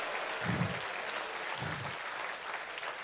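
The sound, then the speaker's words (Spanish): A church audience applauds steadily as praise to God, a dense wash of clapping from many hands that fills the space evenly for the whole stretch, with a couple of low thumps underneath. “Si esa es la alabanza de aplausos para tu padre, dáselo mejor.”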